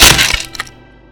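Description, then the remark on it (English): A wooden staff of gray wood is chopped through by a palm strike: a loud, sharp crack of wood splintering apart, followed a moment later by a smaller second snap, then a faint ringing tail that fades out. No voices. “Time crawls to a standstill as the sickly gray wood of the staff splinters apart and you see countless magical reactions shoot off at once.”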